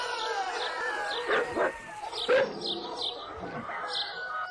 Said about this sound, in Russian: Собаки тоже погнались за ним с лаем. Кто-то захохотал, потом свистнул. Собаки залаяли громче и дружнее.